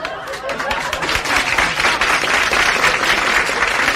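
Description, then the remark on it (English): Sustained applause from an audience during the Hullabaloo show with Murray the King: a dense wash of many hands clapping at steady loudness for several seconds, with a faint murmur of crowd voices mixed in. “Hold your applause, kids, hold your applause.”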